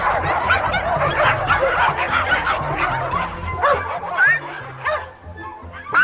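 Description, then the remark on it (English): A loud chorus of chihuahuas yelping and barking at once, high-pitched yips piling over each other in a dense, continuous burst for several seconds. “We are chihuahuas. Hear us roar!”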